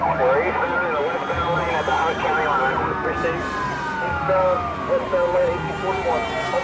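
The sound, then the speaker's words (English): Police car sirens wail continuously with rising and falling tones as police chase a suspect driving the wrong way on a freeway into oncoming traffic, layered over steady road and engine noise, fairly loud throughout. “The cops scramble after him, using sirens and lights to warn unsuspecting drivers.”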